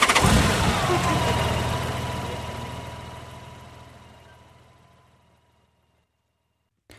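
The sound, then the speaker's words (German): A woman starts a car engine at a gas station in the USA: it cranks and catches with a loud burst, then settles into a steady, low idle rumble that gradually fades away. No one speaks. “Zahl jetzt das Benzin, interveniert sie und dann startet sie den Motor.”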